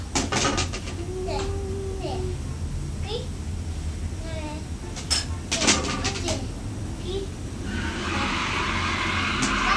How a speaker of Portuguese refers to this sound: O carro deu uma brecada.